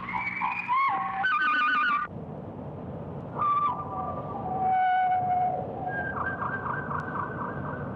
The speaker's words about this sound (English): Here the Towhee sings its theme immediately after the thrush's statement.